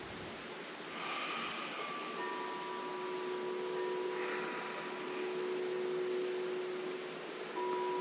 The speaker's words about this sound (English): You can hear the wind chimes, which were a gift from one of my best friends many, many years ago.